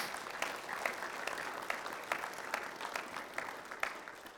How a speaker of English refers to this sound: So let's just applaud that discipline to be able to do that.